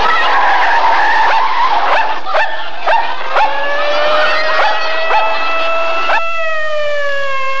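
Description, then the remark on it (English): A loud, sustained screech of car tires skidding as a driver loses control of his car, with a high tonal squeal that wavers and bends in pitch over several seconds, punctuated by sharp scraping bursts, and no talking. “The driver lost control of his car.”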